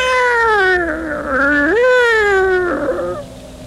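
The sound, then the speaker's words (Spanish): A black cat lets out one long, drawn-out meow, loud, its pitch wavering and rising before trailing off after about three seconds. No one speaks. “Y dicen que es día de mala suerte, que no debes pasar debajo de las escaleras ni mirarle los ojos a un gato negro.”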